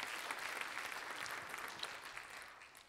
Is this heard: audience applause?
yes